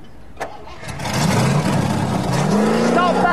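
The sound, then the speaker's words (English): An engine catches and settles into a steady idle (tick over), its low rumble running continuously with a slight rise in pitch toward the end. “Got a nice tick over.”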